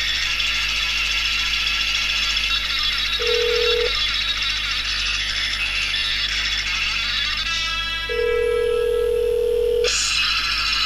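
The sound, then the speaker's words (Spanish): A mobile phone rings, called through Skype from a PC, as two steady mid-pitched electronic tones, each lasting about a second or more, with a pause between, over a constant loud hiss and hum. “En este caso está sonando el teléfono, el móvil.”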